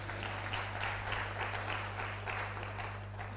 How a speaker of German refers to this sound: Okay, damit ist das zu Ende. Aber ich denke, ein bisschen Applaus hat der Hund verdient, oder?